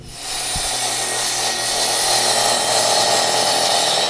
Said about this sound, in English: This saw just cuts steel.